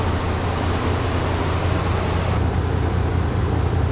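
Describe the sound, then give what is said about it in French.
Harbour lock gates opening while the boat in the lock sits about 2.5 m below the harbour water level, heard as a steady, loud rumbling rush with a deep low hum underneath, continuous throughout with no voices; the hissy upper edge thins out partway through. “Et donc là, les portes sont en train de s'ouvrir.”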